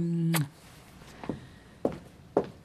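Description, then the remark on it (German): A low hum cuts off as a door shuts with a sharp click, followed by three soft, evenly spaced footsteps. “Und tack, die Türe geht zu.”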